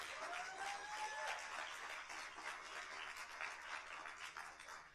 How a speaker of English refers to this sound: I want you to give an applause to your leadership in this church. Is that as good as you can do? Come on.